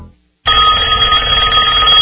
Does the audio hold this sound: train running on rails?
no